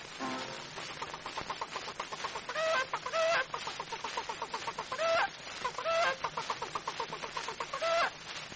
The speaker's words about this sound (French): La poule chante, oui, ça.